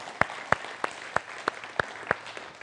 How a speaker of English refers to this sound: Weren't those kids great? Give them a round of applause, huh?